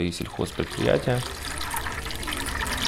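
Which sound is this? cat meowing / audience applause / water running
water running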